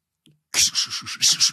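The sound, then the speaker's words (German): A voice imitates a train, puffing out a fast, steady run of about six hissing, breathy chuffs, fairly loud, after a brief faint murmur at the start. “Wenn jetzt irgendwer da draußen wirklich Zug, gedacht hat, ja, mach was soll ich Zug, machen? Was? Ein Zug.”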